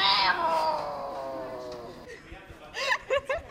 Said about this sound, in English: No, that's not a catfight you're hearing. That's App Camp, a week-long camp for girls only to learn application programming. Their first assignment? Create an app that would make a picture of a cat on your phone meow.